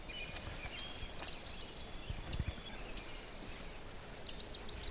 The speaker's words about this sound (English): and then I have the little common yellowthroat singing straight ahead of me. The little yellowthroat looks like a little bandit. The little male has a black mask over yellow. It's quite a stunning little bird to see.